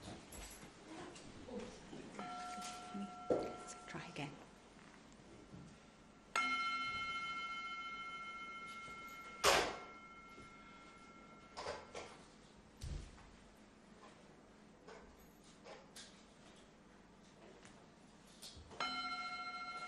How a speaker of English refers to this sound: let's just take a very brief moment just to settle ourselves, to prepare ourselves for being here together, ready to listen and share and sing and pray together. Let's hear the sound of the bell just for a few moments.